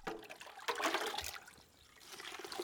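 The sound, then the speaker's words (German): A woman pours immune-boosting tea steadily through a large sieve outside a health house in Triunfo de la Cruz, a broad rushing trickle that swells and eases over a few seconds, moderately loud, with no voices. “Vor der Casa de Salud in Triunfo de la Cruz gießt eine Frau den immunstärkenden Tee durch ein großes Sieb.”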